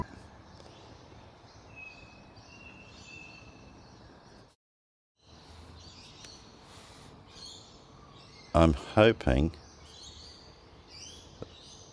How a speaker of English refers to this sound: I'm going to switch off the other music for a second just so that we can enjoy the birds. Hold on.